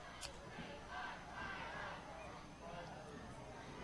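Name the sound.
football stadium crowd cheering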